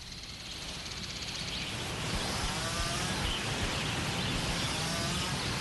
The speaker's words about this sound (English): Before chainsaws, we had hand saws. They were for two men. They did the trimming by hand, too. This is faster. And noisier. These chainsaws are very noisy.